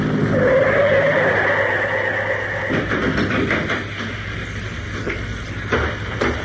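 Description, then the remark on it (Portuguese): A car's engine and road noise drone steadily, then the pitch drops and the rumble eases as the car pulls over to stop beside a broken-down car, leaving a quieter idle with a few soft clunks. “Parece que seu carro enguiçou e precisa de ajuda. Vamos ver. Vou parar.”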